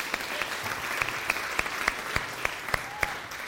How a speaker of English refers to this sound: So big round of applause for the Bumblers.